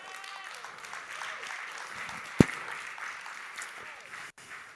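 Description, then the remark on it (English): A crowd claps steadily, a dense patter of many hands at moderate volume, with one sharper clap standing out midway before the applause carries on briefly. “I appreciate your clapping.”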